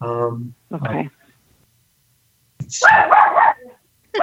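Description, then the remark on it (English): A dog barks: two quick yappy barks, then after a pause a longer, rougher bark, with nothing else audible around them. “Bella disagrees. What the dog said.”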